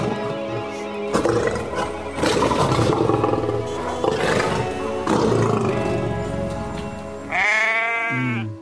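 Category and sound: sound effect, roar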